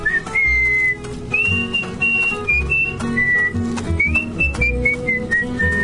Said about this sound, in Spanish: echó a correr por el declive de la loma, golpeándose los muslos con las palmas de las manos y silbando al mismo tiempo su aire favorito.